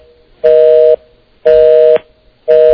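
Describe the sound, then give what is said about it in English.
A landline telephone tone pulses in steady half-second bursts, three loud beeps separated by brief silences, with no voices present. “See, he's not on a cell. He's just on a regular phone. Right? A hard line.”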